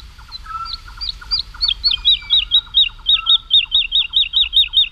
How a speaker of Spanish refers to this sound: Y la totobía está, es una alondra, la alondra de bosque, la totobía está volando arriba, aleteando frenéticamente y cantando.